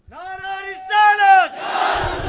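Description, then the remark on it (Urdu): At a religious gathering, a single voice bellows a long, drawn-out religious slogan call in two sustained bursts, then a crowd answers with a loud, rough roar of many voices shouting together. “نعرہ”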